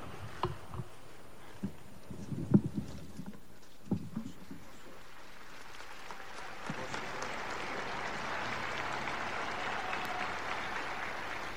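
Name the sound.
applause in church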